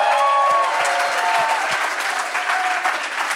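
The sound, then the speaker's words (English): An audience at Cornerstone Church in Atlanta claps loudly and steadily for Jemar Tisby during a live recording, a dense wash of applause with scattered whoops and cheers rising above it, holding at a constant level until the end. “Jamar Tisby, y'all, give it up for Jamar.”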